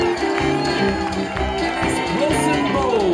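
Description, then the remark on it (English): At a concert after the last song, a crowd cheers and shouts for the sound engineer in a steady, loud wash of overlapping voices, with some clapping mixed in throughout. “Give a big round of applause right there for Dan Foley.”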